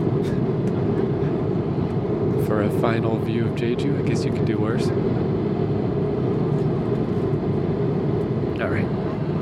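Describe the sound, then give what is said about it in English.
A steady, loud airplane cabin engine drone fills the entire recording, a constant low roar in flight, with a man speaking softly over it. “The only reason I'm even talking on the plane is because there's no one sitting right next to me, but this is still probably pretty weird, so I'll stop.”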